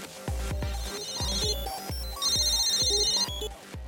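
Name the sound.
phone ringing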